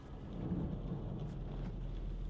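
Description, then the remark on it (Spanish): Steady rain pours down outdoors on a street with traffic lights, a dense continuous hiss with a deep low rumble underneath like thunder. No voices, just the constant wash of a storm. “En la calle, la lluvia cae sobre el semáforo que pasa de ámbar a verde.”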